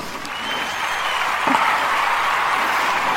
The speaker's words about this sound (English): And today, I'm very pleased to present to you the Eighth Dwarf, Trippy. Big round of applause for Trippy.